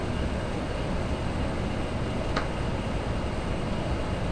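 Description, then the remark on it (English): A steady, dense rumble from inside a Shinkansen high-speed train in motion, approaching Mikawa Anjo station in Japan, constant and fairly loud throughout, with one brief sharp click about halfway through and no voices. “Ladies and gentlemen, we will soon make a brief stop at Mikawa Anjo. The exit will be on the left side of the train.”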